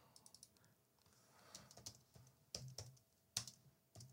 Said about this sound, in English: A little typing going on there. And I gotta click here. There we go.